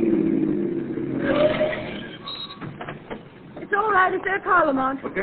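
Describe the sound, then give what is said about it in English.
A car engine rumbles on a road, its low drone swelling as it approaches and then settling as it pulls to a stop, followed by voices talking. “Listen, here comes another car.”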